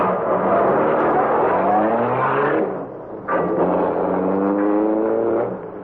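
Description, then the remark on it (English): A car engine roars at high speed as it follows another car toward River Road, its pitch climbing as it accelerates, briefly drops off, then surges back up loud for another hard run. “Speed up and pass them, Cato.”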